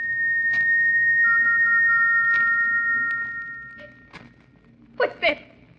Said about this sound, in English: What's that whistle? Who is it? It's come again. That whistle.